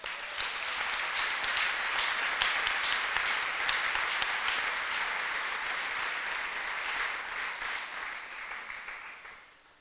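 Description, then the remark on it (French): A crowd applauds for Habakkuk, steadily for several seconds, a dense wash of many hands clapping, holding strong before tapering off and fading out at the end. “Applaudissez pour Habakkuk.”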